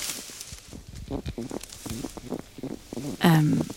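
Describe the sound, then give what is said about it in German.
A small hedgehog rustles and sniffs in a rapid, irregular series of soft scratchy snuffles, moderately loud, followed by a brief louder tonal, voice-like sound toward the end. “Hier raschelt's doch oder schnüffelt's? Was ist das? Ein kleiner Igel.”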